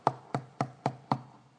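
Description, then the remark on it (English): Five sharp knocks rap on a wooden door in a steady, evenly spaced rhythm, moderately loud, with no voices. “I'm knocking on this door.”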